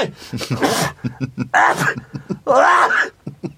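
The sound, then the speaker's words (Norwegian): A voice lets out a series of loud, drawn-out sneezes, three big bursts with short breathy gaps between, theatrical in delivery. “Husk, jeg nyser akkurat som min far, og han er jo overdrev alltid, jeg trodde det.”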